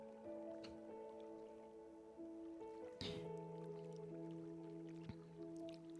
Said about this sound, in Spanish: Y ese sonido que escucho de base, que es un sonido de agua, como un pequeño riachuelo, voy imaginando cómo va entrando en mi cabeza,